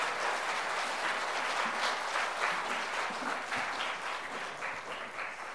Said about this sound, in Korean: 나오실 때 큰 박수로 환영하겠습니다. 네.